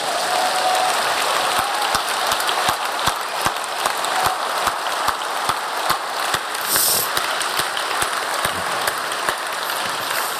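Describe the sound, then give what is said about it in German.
An audience claps steadily for about ten seconds, a dense, even patter of many hands with a few sharper individual claps standing out. No one speaks over it. “Dann klatschen wir jetzt trotzdem, der wird das schon hören.”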